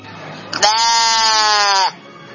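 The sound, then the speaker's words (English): A single sheep bleats loudly, one long wavering cry lasting just over a second, with a faint low hum in the background before and after. “I can see the sheep giving their wool to keep the little baby warm.”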